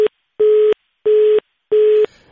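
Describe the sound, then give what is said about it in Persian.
A telephone busy tone after a dropped call with a Radio Azadi reporter in Farah province: loud, steady beeps in an even on-off rhythm, each lasting about a third of a second, with short silences between and no voices. “متاسفانه تماس تلفنی برقرار شده ایم، البته با احمد شاه فطرت خبرنگار رادیو آزادی در ولایت فرا قطع شد”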